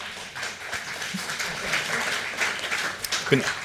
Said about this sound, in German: Ich freue mich, bin erstaunt, aber ich freue mich natürlich sehr über den Applaus. Ja, der ist verdient.